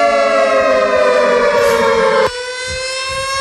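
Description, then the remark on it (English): A loud European-style alarm siren blares steadily with a buzzy, harmonic-rich tone, then drops abruptly to a lower pitch partway through, like a two-tone hi-lo wail. No voices are heard. “You know what I love about the alarms? You still have the European. That's a good siren.”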